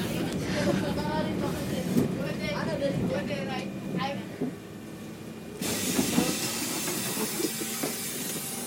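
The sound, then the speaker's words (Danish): A bus pulls to a stop in Rønne, engine rumbling under a man's talking, then a loud, sustained burst of air hiss from the brakes or doors takes over the last few seconds. “Så er vi kommet til Rønne. Vi skal ud af bussen nu.”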